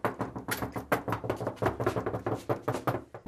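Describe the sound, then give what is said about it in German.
A door being opened, with a rapid, uneven series of rattling knocks and clacks over a low creaky hum, continuous for a few seconds with no one speaking. “So, jetzt geht die Tür auf.”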